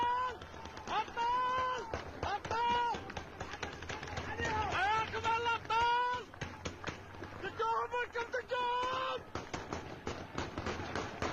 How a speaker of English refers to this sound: Listen to that. It sounds like automatic gunfire, doesn't it, folks?